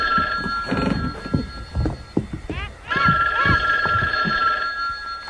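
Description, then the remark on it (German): A telephone rings for a long-distance call with a steady, bright electronic trill that breaks off briefly and starts again, while people talk over it throughout. “Ein Ferngespräch. Ein Anruf für Robert Andrews.”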